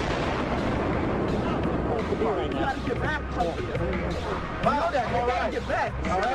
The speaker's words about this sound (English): And then it was like another 2, 3 seconds, you heard explosions, like boom.